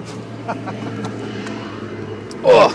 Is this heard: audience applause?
no